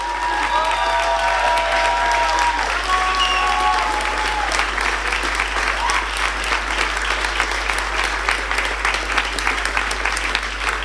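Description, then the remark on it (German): Sustained, loud applause from a large audience at an election party, in honour of two campaigners, a dense steady clatter of clapping with some cheering and whistles rising over it near the start. “Euer Applaus, Applaus!”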